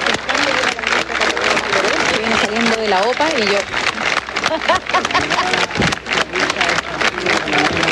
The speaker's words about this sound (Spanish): Son los aplausos de los subsecretarios y subsecretarias que ya están instalados en esta tarima con una alfombra de color rojo que fue instalada ayer